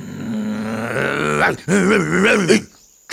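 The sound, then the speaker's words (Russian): A voice imitates a dog barking with two drawn-out, growling, wavering barks, loud, followed by a brief clipped sound at the end; the barking dog is Mastino, by an old doghouse near a castle. “Кто это лает? А, это ты, Мастино? Почему ты здесь, а не в своем домике?”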